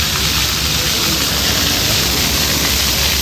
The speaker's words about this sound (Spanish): El agua está tratada para que sea segura y ya te digo que en cuanto ha empezado a salir agua por los chorros, esto se ha llenado de niños corriendo y dándose un buen baño, podríamos decir.